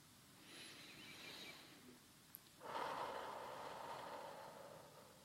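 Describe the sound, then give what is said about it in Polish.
A slow, deep breath taken to hold back crying under stress: a soft airy inhale, then a longer, fuller exhale that gradually fades. Quiet, with no one speaking. “Resztką woli zamieniam wybuch płaczu na głęboki oddech.”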